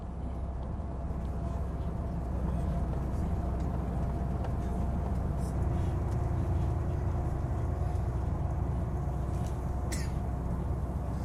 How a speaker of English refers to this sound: A title announces Southern Turkey. A bus travels down a four-lane highway with members of the White Helmets team on board.